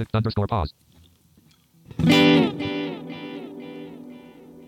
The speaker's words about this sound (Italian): C'è un filo di riverbero e un filo di delay, proprio leggeri.